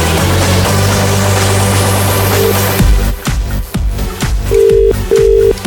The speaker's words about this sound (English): If that's your phone ringing now, you are our winner this morning. Please answer.